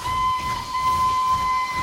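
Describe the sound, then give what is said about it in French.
A steam train crossing the countryside towards a town and its station, Gare Saint-Lazare, in November 1862: its whistle holds one steady, piercing tone for about two seconds, layered over a low rumbling and hissing of the engine, with no voices. “Un serpent de fer déchire la campagne. Là-bas, une ville apparaît, et devant elle, une gare.”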